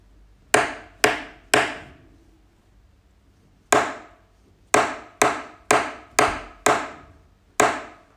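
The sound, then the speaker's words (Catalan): A rhythm dictation of quarter notes, pairs of eighth notes and rests, played as sharp wooden taps: three even beats, a long silent pause, then quicker taps mixing short paired strokes with steadier beats, about eleven crisp clicks in all, with no voices. “Aquesta setmana us he preparat aquest joc de figures rítmiques amb la negra, les dues corxeres i el silenci.”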